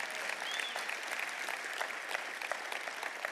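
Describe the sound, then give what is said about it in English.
An audience claps for God, steadily, a dense wash of overlapping hand claps that holds at an even, fairly loud level for the whole stretch without building or fading, and nobody speaks over it. “Come on, if you're gonna give God a clap, give him a good one.”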